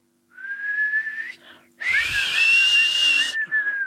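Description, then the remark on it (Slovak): A person whistles a steady, rising tone like a tea kettle coming to the boil, first softly, then a brief pause before a louder, breathy, hissing whistle that holds and wavers for a couple of seconds. “To je čajník, vieš? Keď sa ti zohrieva voda.”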